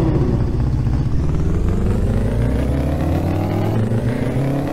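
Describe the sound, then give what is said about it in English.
A loud engine in a racing video game revs and accelerates steadily at the start of a race, its pitch climbing continuously with harmonic whine, dominant, with no voices present. “Start your engines.”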